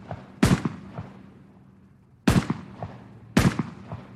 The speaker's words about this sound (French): Vous trouvez que ça ressemble à un tremblement de terre? Ben non, ça ressemble à des coups de feu.